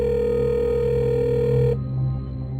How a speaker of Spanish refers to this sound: El celular de ella timbraba, pero no contestaba a nadie.